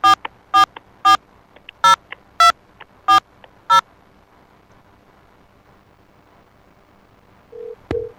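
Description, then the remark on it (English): Seven crisp, loud telephone keypad tones beep in quick, slightly uneven succession, followed by a few seconds of quiet line hiss and a brief electronic tone at the end. “Let's get the phone here.”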